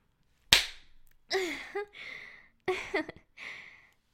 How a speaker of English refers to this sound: Ugh, grab this ass. Slap this ass. It's yours now.